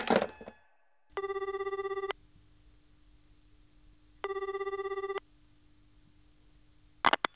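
A telephone rings twice, each ring a roughly one-second warbling burst with a pause between, over a low steady hum, with a short clatter at the start and a click near the end.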